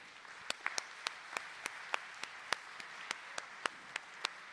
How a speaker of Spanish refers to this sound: Y a los que nos visitan por primera vez, además de ellos, le damos un aplauso de bienvenida.